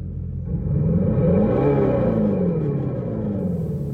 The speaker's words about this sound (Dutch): Dat was dus het geluid van een elektrische Dodge Charger. Aha. Elektrische auto, maar ja, het is een muscle car, dus het moet herrie maken. Hè? Dus ze hebben er gewoon een hele grote luidspreker op gezet om toch dat benzinegevoel nog een beetje